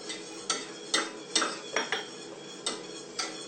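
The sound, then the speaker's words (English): A fork clinks and scrapes against a pot while stirring custard thickened with corn flour and water over a low flame, about eight bright metallic taps in a steady, unhurried rhythm, with no voices. “So you have to keep stirring this now because you can get a lot of lumps in it if you don't keep stirring it”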